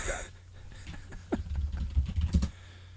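Rapid typing on a computer keyboard as someone researches something online, a flurry of clicky keystrokes over a low background hum, growing busier toward the end before stopping abruptly.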